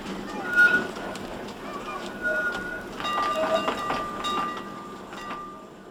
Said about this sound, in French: Et puis, un de nos copains a eu l'idée d'appuyer sur la pédale. Et nous voilà partis. Le tramway. Il s'en va, et nous on était contents.